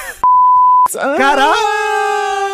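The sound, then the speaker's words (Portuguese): A single loud, steady censorship bleep lasts just over half a second, covering a spoken name, and then a man's voice resumes, drawn out and expressive. “Vou passar lá o nome, vocês bipam?”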